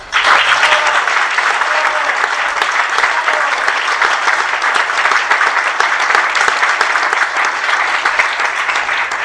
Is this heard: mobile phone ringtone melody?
no